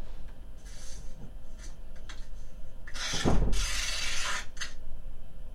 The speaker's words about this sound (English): Chalkboard ripping paper. Do you think the chalkboard is ripping the paper? Yeah. No, it's packing boxes.